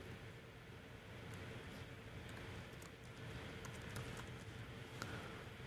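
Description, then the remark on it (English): Scattered light clicks of keyboard typing, irregular and fairly faint, tapping away beneath a steady hiss of background noise with no voices. “Trust me, my typing is continuing.”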